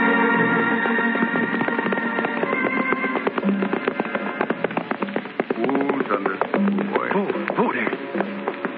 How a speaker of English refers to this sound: that tom-tom means that somebody just died in Black Bear's camp